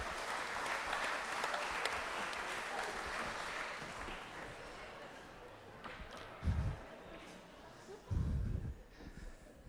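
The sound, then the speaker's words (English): An audience at an Easter Sunday church service claps steadily for several seconds for the children, then the applause thins and fades, followed by a couple of dull low thumps. “Let's give them a clap.”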